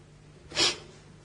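A single short, airy breath drawn in through the nose while paying attention to the in-breath, fairly soft, rising and fading within a moment against a quiet background with no talking.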